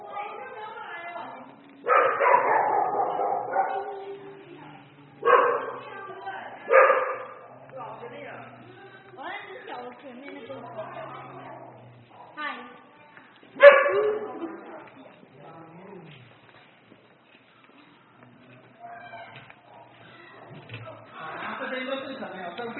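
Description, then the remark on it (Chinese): Beagles in an animal shelter bark in loud, scattered bursts with occasional yips and whimpers, while a person talks over the noise in a reverberant space. “像这个也是米格鲁啊，这个也是米格鲁哈。”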